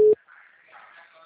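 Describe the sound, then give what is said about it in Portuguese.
A loud, steady telephone busy-tone beep sounds once at the start after a phone call drops, and cuts off abruptly, leaving only a faint, muffled murmur of background noise. “O senhor desligou o telefone. Caiu a ligação, desliguei, né?”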